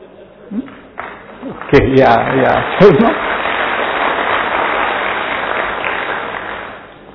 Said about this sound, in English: There are so many reasons why we should clap. Recently I found out another new reason. In Bhutan there is a belief that to throw away bad souls we should clap.